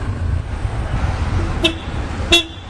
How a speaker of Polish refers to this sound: Przeciskamy się środkiem jezdni pomiędzy sznurami stojących aut.